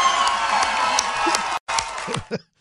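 A crowd cheers and whoops loudly for pre-existing medical conditions when asked to, in a dense, sustained roar of many voices, cut by a brief silence before the shouting resumes and fades out.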